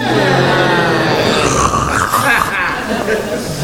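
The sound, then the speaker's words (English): An audience moans and groans together on cue after a count of one, two, three, in one long, sustained chorus, low and wavering, staying loud and steady for several seconds without any clear words. “I'll cough for everybody to do some moaning. One, two, three.”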